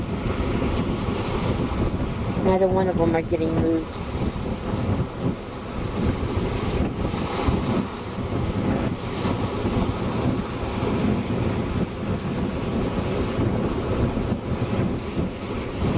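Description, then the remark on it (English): Ocean waves wash steadily over rocks on the shore in a continuous, loud roar of surf, with wind buffeting the microphone and a man speaking briefly over it. “There's some more waves coming, except Kermit gets moved.”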